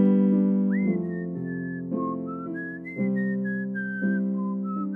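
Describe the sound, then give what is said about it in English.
A man whistles a slow melody, a song from Vacation Bible School, in held, gliding notes over steady instrumental chords that change about once a second. The whistling is clear and prominent, and no one speaks. “And he's whistling a song.”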